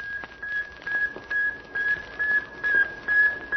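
A radio signal from a satellite in orbit 560 miles above the Earth: a steady, high-pitched electronic tone pulsing in a regular beep-beep rhythm, about two beeps per second, over a bed of crackling static and hiss.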